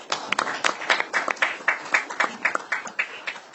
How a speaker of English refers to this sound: So I'll just give you a round of applause for all of you that are here today. Thank you.